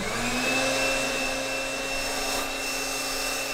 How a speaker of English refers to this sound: Now, instead of using a regular blow dryer, like the kind you get from a drugstore, she uses a very specific piece of scientific equipment called an air mattress inflator.